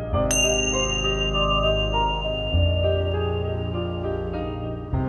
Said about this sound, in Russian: Дышите до тех пор, пока вы не услышите звук колокольчика. Вот этот звук.